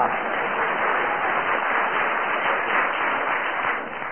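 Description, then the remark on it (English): Steady, dense applause from an audience for the adjudicators fills the whole stretch at an even level, many hands clapping together without any voices on top, easing off only slightly at the very end. “And also another round of applause for Samantha,”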